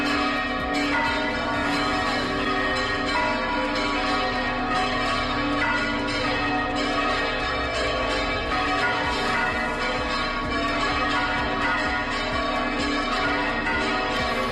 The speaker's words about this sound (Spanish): Minutos después de la fumata blanca, a las 6:08 de la tarde, las campanas de la Concatedral de la Redonda de Logroño y de otras iglesias en La Rioja comenzaban a sonar en señal de júbilo.